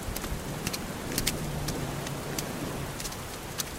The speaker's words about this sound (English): Follow me, let's get out of this rain.